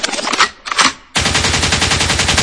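Loud DJ gunshot effects signalling a track to go forward: two sharp blasts, then a rapid, sustained burst of machine-gun-style fire pounding steadily to the end, with no voices.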